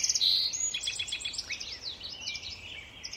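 A dense dawn chorus of songbirds, including song sparrows, common yellowthroats, American robins and red-winged blackbirds, in Tektexan Marsh on Saturna Island, British Columbia: many overlapping chirps, trills and whistles from several birds at once, with a faint low ambient rumble beneath and no talking.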